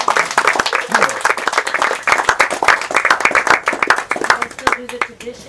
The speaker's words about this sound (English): Tradition of clapping all the way. Oh, all the way.